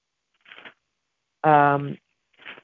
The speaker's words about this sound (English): Unless there's a really good noise canceling, you're going to hear me turning pages. It's only because I'm in my, I told you all, I prefer to hold my Bible, to touch it, to interact with it.